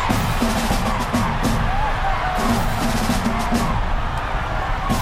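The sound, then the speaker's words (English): About 20,000 fans roar and scream continuously at the Classic (Clásico), a high school football game between the Garfield Bulldogs and the Roosevelt Rough Riders in East Los Angeles, with bursts of whistles and cheers rising above a dense, steady wall of noise. “Those are the sounds of 20,000 screaming fans at a game called the Classic, or Clásico.”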